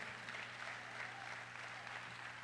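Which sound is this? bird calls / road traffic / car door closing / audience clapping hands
audience clapping hands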